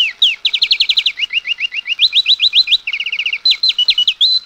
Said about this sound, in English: And every morning when the birds began to beep